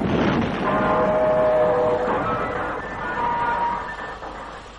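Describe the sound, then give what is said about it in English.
A train runs steadily along the rails, a loud, continuous rumble with faint metallic squealing tones drifting through it, fading slightly toward the end. No one speaks. “Sam decided to take a trip in connection with some Schubert business that had to be finalized, and so, looking for the cleanest, safest, quickest way to get from A to B, he took the train.”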